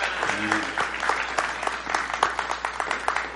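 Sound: audience applause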